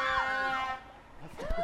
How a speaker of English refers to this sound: Is that the bus? Even buses are honking the horns? That's amazing.